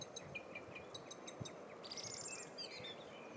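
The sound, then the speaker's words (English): A blackbird sings outdoors in the morning, mimicking car alarms: a run of quick repeated chirps, then a sustained, wavering electronic-like whistle, over low background noise. “There's a blackbird up there. And it's mimicking car alarms.”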